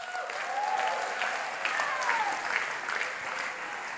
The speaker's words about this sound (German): Applaus für 2. Samuel 6, Vers 6.